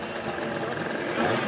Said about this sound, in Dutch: Maria Houtman vertelt later dat haar man een Vespa-scooter ging rijden. Net zo een als waarmee Holleder door de stad toerde.